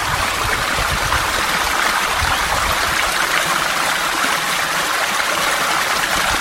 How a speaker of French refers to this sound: Dans ce village se niche un cours d'eau, le fleuve Go. Cet espace privatisé dévoile un relief typique de la région, les cascades.